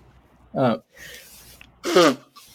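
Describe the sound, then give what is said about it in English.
Two sharp sneezes about a second and a half apart, each a loud voiced burst, with a quieter breathy intake between them and no talking. The sneezes happen during allergy season in California. “I'm going to sneeze for a moment.”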